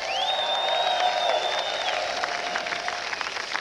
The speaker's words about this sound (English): I was going to ask you to applaud to make them welcome, but that's happened.